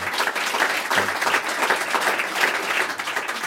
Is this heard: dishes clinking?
no